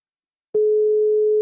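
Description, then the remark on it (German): After half a second of silence, a telephone ringing tone begins as a phone call is placed: one steady, mid-pitched electronic beep that holds evenly to the end. No one speaks. “Oh, es klingelt.”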